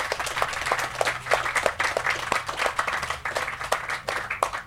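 An audience breaks into steady applause, many hands clapping in a dense, continuous patter with sharp individual claps popping through, sustained for several seconds with no talking over it.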